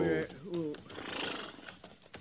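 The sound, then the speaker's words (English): A horse lets out a loud, wavering whinny, its pitch rising and falling, followed by a stretch of rustling outdoor noise and a few scattered clops. The horses are resting in the shade of big rocks above springs in rough, rocky country. “We'll rest the horses a minute, and then we'll head on back to the herd.”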